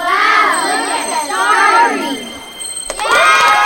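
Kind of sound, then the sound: crowd, crowd clapping and cheering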